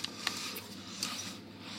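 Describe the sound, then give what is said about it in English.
Someone chewing a mince pie: a few soft, sharp mouth clicks scattered over a steady background hiss, with no talking. “Sorry, I'm just making noises while I eat.”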